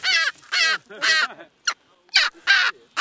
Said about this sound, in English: I wasn't on the island, though, to study the penguins or the albatrosses, but a bird that's been the focus of my research, a strange bird of prey called the striated caracara.